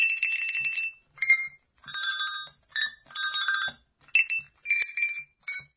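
A cathedral glockenspiel of 25 tuned bells rings out a sacred melody, bright metallic notes struck one after another in short phrases with brief pauses between, clear and fairly loud with no voices.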